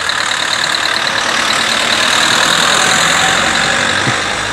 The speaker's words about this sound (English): And for some strange reason, we've got this, look, there's another car coming.